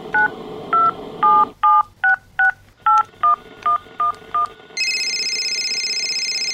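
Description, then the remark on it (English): A quick run of about a dozen telephone keypad tones beeps out in an uneven rhythm, clear, followed by a steady high electronic tone as the line connects. No one speaks. “It's when I put my foreign phone in.”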